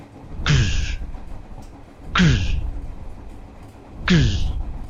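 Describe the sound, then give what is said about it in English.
A voice imitates the wings of a large blue dragon flying past a train: three loud, evenly spaced whooshing beats about two seconds apart, each a breathy burst that sweeps downward in pitch and fades. “And you are like, that is the sound of dragon wings.”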